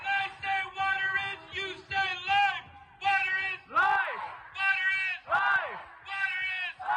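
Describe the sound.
A crowd of hundreds of protesters outside the Minnesota State Capitol, protesting the Line 3 pipeline project, chants in unison, repeating short loud phrases in a steady rhythm with brief pauses between them, some rising, yell-like calls breaking through.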